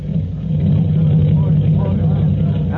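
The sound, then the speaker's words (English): A heavy fire engine rumbles at low speed as it backs into its firehouse quarters after a run, its deep engine drone steady and loud for a few seconds, with indistinct voices blending into the noise. “And half an hour later, as the weary fireman, exhausted and raging from a succession of runs to imaginary fires, return again to the quarters of Engine 209.”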